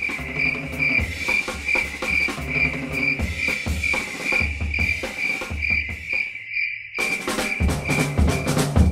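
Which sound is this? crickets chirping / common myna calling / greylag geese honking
crickets chirping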